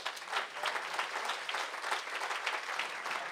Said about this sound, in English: You just clapped. It's like, I don't really know who's a visitor. But they do, so we were clapping for you.